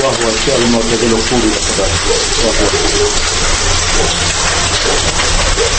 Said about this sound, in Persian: زمانی که من به یکی از این اتاقها داخل شدم، دیدم آب وافر و نسبتاً گرم از بالا به زمین می ریزد و جای خوبی برای حمام کردن می باشد، چیزی شبیه به حمام های شهری.